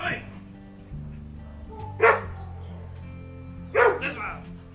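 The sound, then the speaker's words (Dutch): A dog barks twice behind a gate at an animal shelter, two loud, sharp woofs about two seconds apart, over a steady low droning background. “Achter de poort staat een man met zijn hond en de man roept heel hard tegen het beest.”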